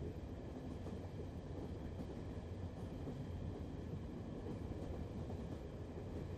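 A train rumbles steadily along, a dense low mechanical roar that holds at an even, moderately loud level throughout, with no voices.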